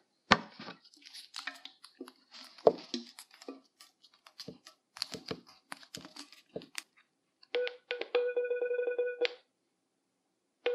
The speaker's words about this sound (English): This is looking for barcodes. As I move the phone slowly, you can hear the beeps getting closer together and louder. The faster the beeps are together, the closer you are. And eventually, it recognizes the barcode and tries to process it.